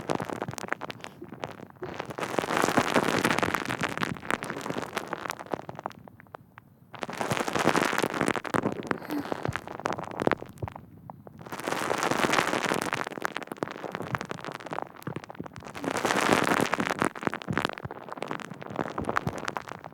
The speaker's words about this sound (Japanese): 泡がパチパチって弾けて、肌に浸透していくのを感じてね。